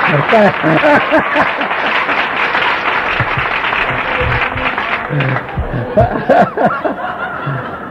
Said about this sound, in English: Now, you might give me my applause now.